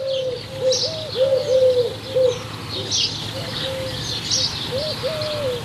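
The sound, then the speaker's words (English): A pigeon coos over and over in low, hollow, repeated phrases with a steady rhythm, while fainter chirps and twitters from other birds sound higher up in the background. “That is the most boring bird ever drives me mad. Never knows when to shut up.”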